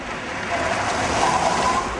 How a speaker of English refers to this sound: Yeah, that just sounds like a car. Yeah, there's actually a bit of a sort of tyre screeching there.